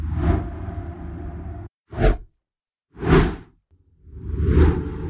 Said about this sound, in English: That kind of signify a change from topic A to topic B. You get a little swoosh.